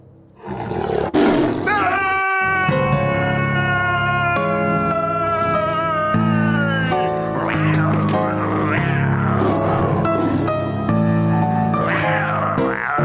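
A tiger roars loudly, a long rumbling roar followed by a series of snarling growls that continue for several seconds, with no one talking.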